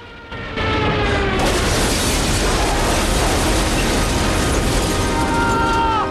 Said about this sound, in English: The plane crashes in the field. Joe and Stella cling together. Ag and Ratty rush up. The plane explodes just as the pilot climbs out.